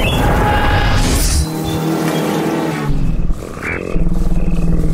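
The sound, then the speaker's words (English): A car engine roars loudly throughout, its pitch rising and falling as it revs, with a brief dip in intensity midway before surging again. “Jump in the car.”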